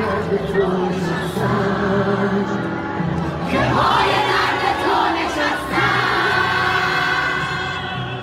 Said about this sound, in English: In one corner, female fans packed the seats, screaming and waving flags.